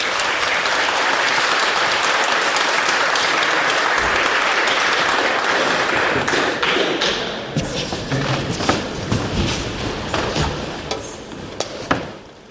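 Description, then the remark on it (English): A crowd applauds the judges as they are called up to announce the winner, a dense wash of applause that stays loud for several seconds, then thins into scattered, sharper individual claps before fading out. “And if you want to give them a round of applause as well.”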